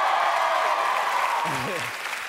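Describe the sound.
Loud, dense audience applause for comedian Donald Glover at a Comedy Central stand-up show in New York fills the whole clip as a steady wash of clapping, with a man's voice briefly speaking over it near the end.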